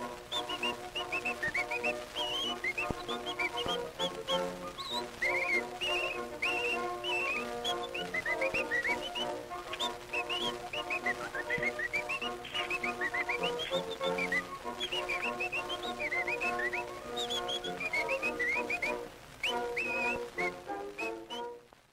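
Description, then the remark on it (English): Bright, chirpy whistling runs through a lively 1912 phonograph recording, darting up and down in quick trills over a steady, bouncing instrumental accompaniment, with no singing. “That is the 1912 version. There were many versions of this.”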